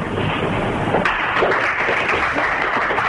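Members of the press give a sustained ovation to two professional handball players announcing their retirement, a dense, steady wash of many hands clapping at an even, loud level for the whole stretch, with no voices standing out.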